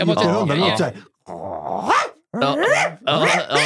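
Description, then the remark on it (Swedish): A person imitates a dog with voice alone, making four loud bursts of rough growling and bark-like yelps separated by short pauses. “Men jag har kunnat härma hund... Och sådana där ljud alltså.”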